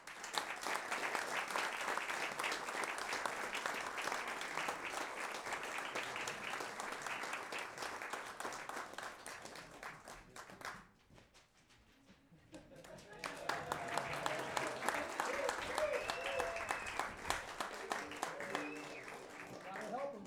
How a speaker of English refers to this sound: Thank you. We hadn't even gotten up onto the stage and the applause had died down. Guys, let's leave. Let's try this again.